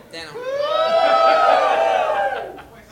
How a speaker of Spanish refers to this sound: Una persona del público gritó.